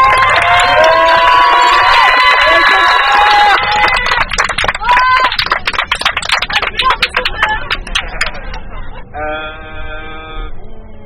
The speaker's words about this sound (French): On va déjà faire une ovation à notre chauffeur qui vous a supporté en train de chanter pendant une heure et demie. Donc on va l'applaudir très fort, il est super.